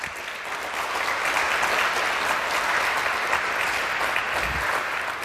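Steady, dense applause from an audience fills the whole stretch, a continuous wash of many hands clapping at an even, fairly loud level with no voices standing out.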